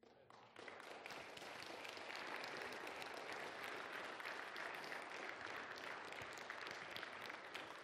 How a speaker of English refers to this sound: Amen. Don't you clap for me. You clap for what God has done.